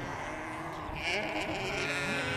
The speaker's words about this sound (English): These sheep really don't know that they're sheep. Oh, they're walking away. They're very quiet. Oh, here they come, yes.